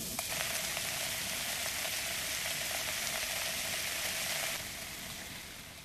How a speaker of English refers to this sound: So now we have a solution of this iron chloride in water, and now we add this white pigment, powdered marble, this calcium carbonate to our iron chloride solution. Right, you have... There will be some bubbling, some fizzing.